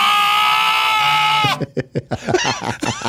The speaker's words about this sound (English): How about this little lamb? This almost sounds like Maddie this morning.